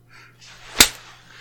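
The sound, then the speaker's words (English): A single sharp, loud, crisp slap of a hand against the skin of the genitals, with a quiet low hum and faint rustling before and after. “Slapping right on your needy little cunt.”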